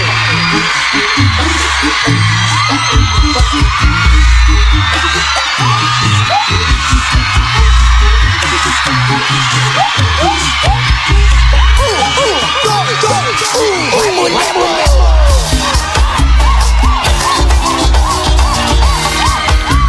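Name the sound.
audience screaming and cheering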